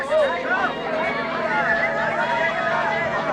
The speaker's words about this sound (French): Voilà, je vous ai laissé entendre quelques instants la rumeur de la foule, les cris, l'ambiance joyeuse de l'attente par cette belle journée chaude, ce ciel pur, ce soleil éclatant, radieux, éclatant, dis-je,